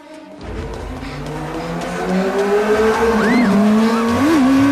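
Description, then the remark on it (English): A motorbike engine roars along a road, its whine climbing in pitch as it speeds up and approaches, growing loud, with no voices. “A motorbike speeds towards her and a rider picks her up by the jacket.”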